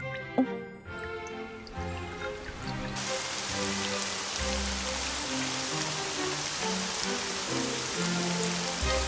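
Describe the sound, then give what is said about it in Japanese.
Steady rain sets in after a few seconds and keeps up as a dense, even hiss, layered over soft background music with low sustained tones. No one speaks. “雨は私が手紙を書き直すまで降り止まなかった。”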